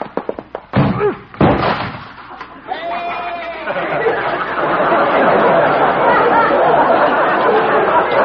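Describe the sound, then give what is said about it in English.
In the radio comedy Honest Harold, Doc's door slams shut and a goat crashes heavily against it a moment later. A crowd then breaks into loud, sustained laughter and chatter. “Well, at least Doc will have to get a new door. Maybe he'll have to get a new goat.”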